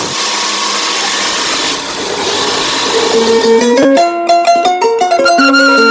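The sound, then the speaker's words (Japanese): An electric embroidery sewing machine runs steadily with a whirring motor hum, then speeds up into a rapid run of sharp mechanical ticks as its pitch shifts in steps, loud, with no voices. “磁気ミシンは磁気ブランドの刺繍ミシンです。”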